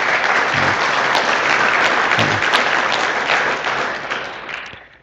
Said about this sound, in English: So why don't you give them a round of applause?